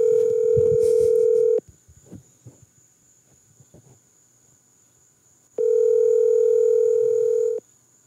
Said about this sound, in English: He's looking at the phone right now, waiting for it to stop ringing. He's staring at it so he could send a text message in a minute.